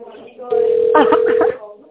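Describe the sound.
A steady telephone keypad tone, an extension number pressed in tone mode on an automated phone menu, holds for about a second at a fairly loud, mid-pitched level while voices talk over it, with quieter murmuring before and after.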